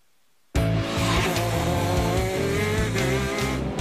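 After a brief silence, racing karts roar past at speed, their small engines whining loud and continuous with a buzzing, high-revving drone and pulsing low rumble.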